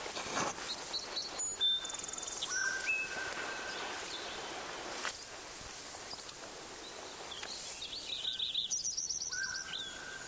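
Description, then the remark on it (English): A sparrow sings in short bursts of high, thin whistled notes and brief trills, spaced irregularly over a steady hissing, rustling background. No one speaks. “My good sparrow number one is singing again.”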